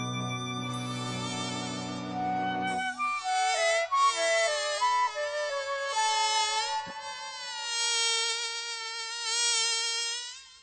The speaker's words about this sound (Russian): Вдруг откуда-то летит маленький комарик, и в руке его горит маленький фонарик.